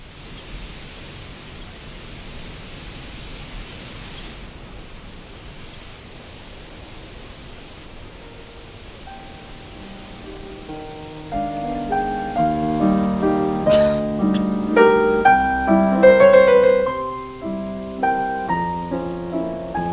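Thin, very high calls of flocks of thrushes, redwings and blackbirds passing overhead on nocturnal migration, brief sharp 'tsip' notes scattered irregularly across a quiet hiss, with soft tonal music rising underneath in the second half.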